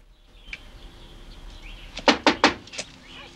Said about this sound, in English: Eventually, he comes to a door and presses the buzzer. It doesn't work, and so he knocks instead.